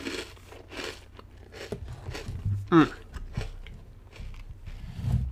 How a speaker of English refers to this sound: Sorry if you can hear me chewing, but it would make sense because these things are so daggum crunchy.